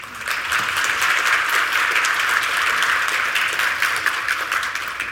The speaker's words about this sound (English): Round of applause. Thank you very much.